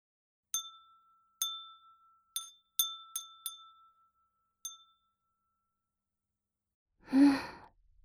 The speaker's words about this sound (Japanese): それじゃあ最初は、また、ガラスの綺麗な風鈴にしよっか。